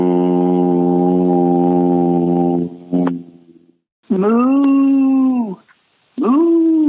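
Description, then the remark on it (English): A person gives long, drawn-out mooing calls in imitation of a Russian cow, low and droning with a whale-like moan. One steady call is followed by two shorter rising-and-falling ones, loud. “I didn't know there was such thing as Russian cows. They moo in Russian. Yeah, or sound like a whale.”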